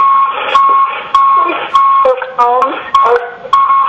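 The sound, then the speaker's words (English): Repeated electronic beeping comes through a narrow, tinny phone line, steady tones broken by sharp clicks, with muffled voices and line noise underneath. “We all need to do that, or just whoever is beeping.”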